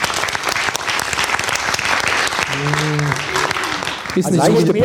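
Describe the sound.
An audience claps steadily for several seconds for a question from an audience member, a dense, even wash of applause, with a few voices briefly calling or cheering over it near the end.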